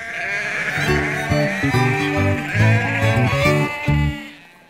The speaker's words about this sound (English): Soon the sheep were being moved off the pier.